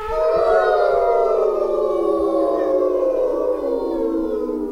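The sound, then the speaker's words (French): Several wolves howl together in long, overlapping wavering tones that slowly glide downward, loud and sustained for the whole stretch, with no talking. “Le sanglier chargea les loups du côté nord et avec ses grosses défenses, il poussa les loups un par un en direction de la falaise. En hurlant, ils tombèrent dans le vide.”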